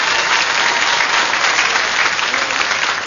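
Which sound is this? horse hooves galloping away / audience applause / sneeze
audience applause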